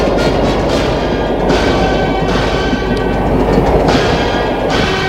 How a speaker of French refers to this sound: C'est la nuit. Qu'il y a quelques trains qui partent.